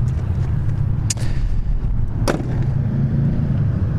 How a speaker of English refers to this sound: Let me turn the engine off so you guys can hear we can have the roar of the motorcycles in the background. Okay? Perfect.